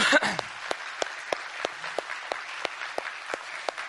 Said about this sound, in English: How many teachers we have in the house today? How many school teachers we got? Any public educators in the house today? Raise your hand. Raise your hand. Would you give them a big round of applause this morning?